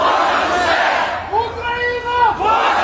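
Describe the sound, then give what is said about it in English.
Kherson residents with Ukrainian flags in the city's central square cheer and shout in unison, celebrating after Russian forces retreated; a loud wash of many voices with a rising, drawn-out chant swelling and falling over about three seconds. “Kherson residents have been flocking to the city's central square with Ukrainian flags to cheer and celebrate the victory.”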